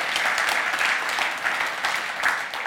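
A church audience at Christusgemeinde in Velbert applauds steadily, a dense crackle of many hands clapping at once that holds at an even, fairly loud level for the whole moment with no voices over it.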